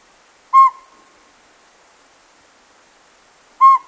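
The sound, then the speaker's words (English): A northern pygmy owl gives two short, clear whistled toots about three seconds apart, each a single mellow mid-pitched note over a quiet background. “This year's keynote speaker, author Paul Banick, will describe the ways of owls and woodpeckers, including this northern pygmy owl.”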